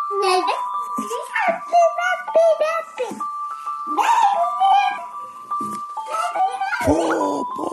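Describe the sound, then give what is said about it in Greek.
Short bursts of high, babbling vocal sounds from a baby boy come in an irregular string over a steady, thin background tone that hums throughout. “Τι ωραίο μωράκι.”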